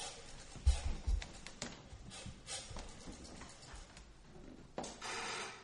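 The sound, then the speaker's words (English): A telephone is dialed to call Spencer Clark at the Harper House: a couple of soft thumps as the receiver is handled, then a run of quick mechanical clicks and ratchets, with no one talking. “I'm going to call Spencer Clark. Get on the phone in there.”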